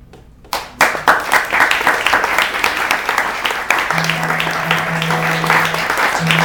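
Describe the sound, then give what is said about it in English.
A crowd at the Hudson Valley Writers Center bursts into steady applause after a song, dense overlapping clapping that starts abruptly and holds at a loud, even level, with a low sustained hum entering partway through. “Let's give them a round of applause for putting this.”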